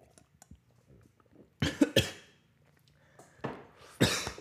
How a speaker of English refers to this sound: Yeah, see, I'm coughing at that bullshit as well.